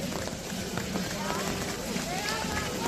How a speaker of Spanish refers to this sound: Bueno, el sonido de la lluvia al paso de una de las unidades del ejército de tierra se impone al de la propia marcha de los militares y también a los gritos de los espectadores.